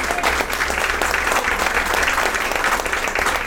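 A steady burst of audience applause, many hands clapping densely and evenly at a loud, constant level with no pauses or speech over it.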